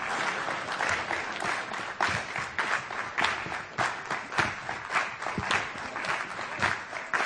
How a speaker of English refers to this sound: And then we just speed it up a bit. You need to speed up your clapping.